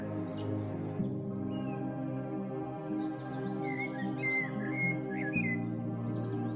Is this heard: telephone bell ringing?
no